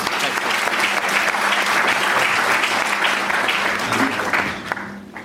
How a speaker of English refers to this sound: So big clap.